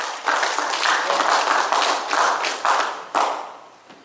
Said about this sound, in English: Your situation will start turning around. What do you want to hand clap and praise? Your situation.